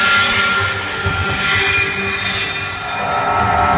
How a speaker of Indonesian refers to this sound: Tapi suara rantai yang diseret-seret ini terdengar jelas berada mendekatiku.